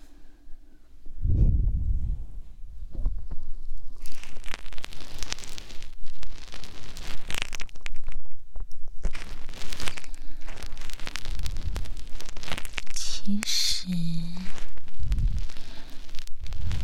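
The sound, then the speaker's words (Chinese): Ear-cleaning ASMR: a soft low thump, then steady crackling, scratching noises like a tool scraping and rustling inside an ear, with a few muffled bumps and no talking. “你这样掏耳朵的时候突然动是很危险的，乖乖躺好，不许乱动了，听到没？”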